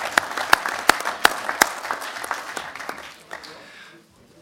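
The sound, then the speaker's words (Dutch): Audience applause at a committee meeting as a speaker is thanked with a flower and a gift: a crowd claps steadily, with several sharp, loud claps standing out in an even rhythm early on, then the clapping thins and fades out to quiet. “Terwijl het, ja, een applaus op de plek.”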